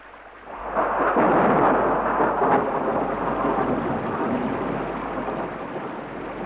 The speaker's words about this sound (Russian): Ого! Вот это ливень! Да, целый водопад.